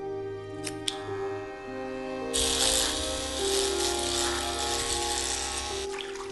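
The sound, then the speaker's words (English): Scissors snip off locks of a man's hair in a bathroom: two sharp early cuts, then a steady crisp rasp of continuous snipping, all under sustained tonal music with no voices. “He takes scissors and snips off locks of hair.”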